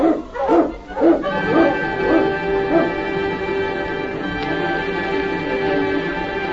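Several husky sled dogs, led by a dog named King, bark and yip excitedly in quick bursts as the team is urged to start, the barking trailing off after a few seconds as a steady sustained tone continues underneath.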